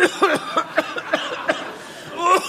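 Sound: coughing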